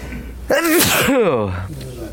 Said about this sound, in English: I hope that's a good siman. The Gemara says if you sneeze during Shemana Esrei, it's a good siman.